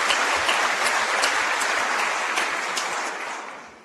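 Sustained applause from a sizable crowd during a New Hampshire budget address, clapping for the state's natural resources. A dense wash of many hands clapping at once holds steady and then begins to fade toward the end.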